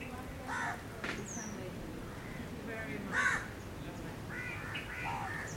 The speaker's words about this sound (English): And is that bird singing beautiful or not? It's not the question. Just note that the crow is crowing.